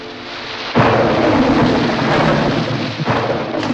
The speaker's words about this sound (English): Wow, sweetheart, you better take your umbrella. Well, I'm sure it'll stop raining in a few minutes. Well, it's raining awfully hard.